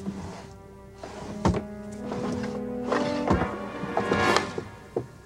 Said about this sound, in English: He spots Ludwig's desk and walks over to it. He opens and closes a drawer, moves a wheelchair out of his way, then opens and closes the other drawers.